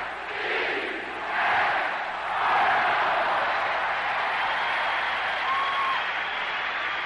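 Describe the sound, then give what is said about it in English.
The whole ballpark crowd stands and cheers during an Orioles doubleheader, a broad sustained wash of voices that swells in waves, with a few whistles cutting through and no clear speech. “And the entire ballpark, not just the people up in right field, but everybody is up, everybody is cheering”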